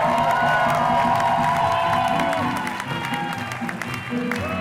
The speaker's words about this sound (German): Und es war wirklich eine Drag-Zirkus-Show, ganz bunt, schillernd, verrückt, teilweise auch brutal, muss man sagen. Und es ist eine einzige große Botschaft der Vielfalt und das Publikum, das hat am Ende gekreischt und getrampelt. Die waren außer sich.